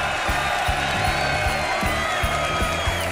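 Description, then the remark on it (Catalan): An audience of about 1,500 people at the Teatre Coliseu in Barcelona applauds and cheers live in a dense, continuous roar, with a steady rhythmic thumping underneath like feet stomping or clapping in time. No one speaks. “És fortíssim perquè és que hi ha l'últim pis.”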